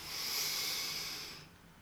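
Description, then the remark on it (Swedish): A single long, airy breath drawn in through the nose, a soft hiss that holds steady for over a second and then fades away, with no talking. “Andas in.”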